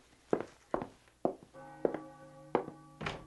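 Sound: footsteps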